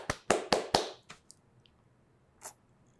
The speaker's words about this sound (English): Round of applause for you. Round of applause for the viewer/listener. Thank you.